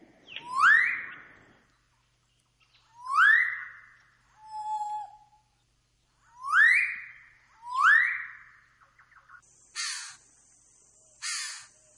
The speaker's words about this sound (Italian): E questo è un uccello del paradiso, ci dicono così.